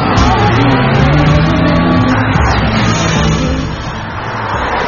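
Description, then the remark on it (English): A loud, steady roar of car engines as paparazzi aggressively chase a car, with excited shouting voices breaking out over the traffic noise as vehicles race by. “Oh, those paparazzi. Yeah, they're chasing the car in front of us. Pretty aggressive.”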